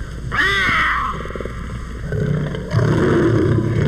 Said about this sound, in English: And this is the purring of the puma or mountain lion. A purring which he punctuates with this shrill cry.